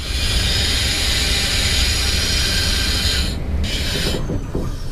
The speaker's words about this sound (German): Und wir haben, obwohl Signal mit Halt erwarten angezeigt kriegt, also muss ich den Zug natürlich abbremsen.